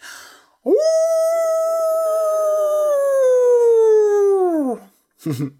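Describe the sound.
A person's voice imitates a wolf howl: one long, sustained, loud wail that rises quickly, holds steady for about four seconds, then slides downward, followed by a brief breathy sound.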